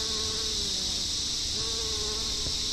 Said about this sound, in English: The basil's the bee food, and you can see there, they're just covered in bees. And I'm getting more and more different types of bees every season.